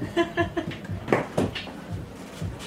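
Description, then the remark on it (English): Chairs being shifted around as people swap seats, with a few wooden knocks and short scraping bumps clustered in the middle, while people murmur softly in the background. “We're just playing musical chairs. There we go. Kind of literally.”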